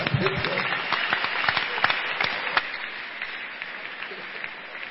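A crowd claps steadily for several seconds, a dense patter of many hands with a few sharper claps near the start, gradually thinning and easing off toward the end.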